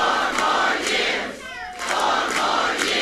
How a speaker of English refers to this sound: The crowd tried out another chant, too, fired up, ready for Joe. That's a spinoff of a rallying cry for the president's re-election campaign, fired up, ready to go.